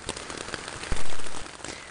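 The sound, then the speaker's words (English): Heavy rain from a thunderstorm pours down steadily on Mackinac Island, a dense hiss peppered with spattering drops on a hard surface, swelling into a louder rush for about half a second midway. “It's raining heavily.”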